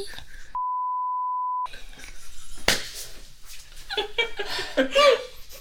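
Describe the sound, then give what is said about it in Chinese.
A single steady censor beep, a flat mid-pitched tone lasting about a second, cuts over the audio, followed by a sharp noise burst and then laughter and chatter. “哔。”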